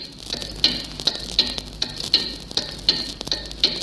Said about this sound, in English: And of course, there was a station directed towards Germany. On November the 10th, 1940, its clock tuning signal first appeared on shortwave.